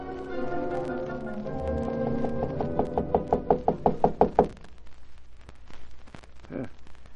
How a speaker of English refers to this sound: they didn't get any response to their knocking.